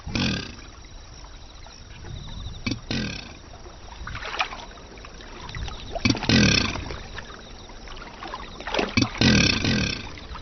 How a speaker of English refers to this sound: At this breeding centre near Xuanzhong, Chinese alligators gather for their extraordinary courtship. The males bellow to attract a mate. As it travels through the water, the sound is both heard and felt by the female.